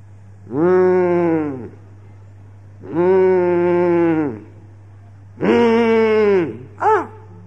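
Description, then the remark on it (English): A cow moos three times in long, drawn-out calls, followed by a brief short moo, loud, with a steady low hum underneath and no talking. “Why this cow is making so much noise?”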